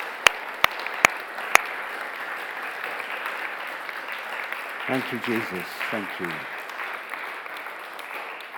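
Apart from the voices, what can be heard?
audience clapping and applauding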